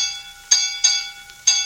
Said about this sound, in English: Silence all ship's bells. No talking. I want absolute quiet.